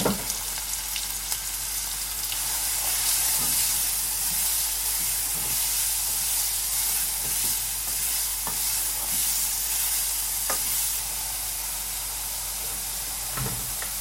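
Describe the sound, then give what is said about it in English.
Onion, carrot and celery sizzle steadily in a hot pan, a continuous crackling hiss with occasional scraping and clicks of a wooden spoon stirring, fairly loud with no talking. “So, if you take a spoon, a wooden spoon, scrape out all that onion and carrot and celery into the pan.”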